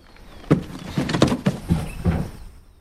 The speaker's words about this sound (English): Charlotte stands on a chair and pulls a box from a shelf, inadvertently knocking another box onto the floor.